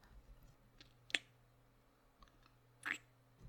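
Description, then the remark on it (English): Scissors being handed over, with two short, crisp clicks about two seconds apart and a few faint taps in between, quiet with no one speaking. “Here's the scissors.”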